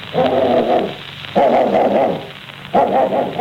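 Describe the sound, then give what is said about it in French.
A dog barks loudly in three drawn-out bursts in a V rhythm, greeting the postman who rings at the door, evenly spaced about a second and a half apart, with brief quiet gaps between and no one speaking. “Le chien l'accueille.”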